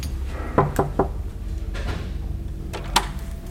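Knocking on an office door: three quick raps, a short pause, then two more knocks, moderately loud, over a quiet hum with no one speaking.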